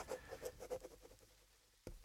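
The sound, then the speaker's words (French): A pen scratches across paper as someone signs with a small drop of blood, in a quick series of short, rhythmic strokes, then pauses and ends with a single sharp tap. Fairly quiet, with no one talking. “Si cela fait ton bonheur, je signe.”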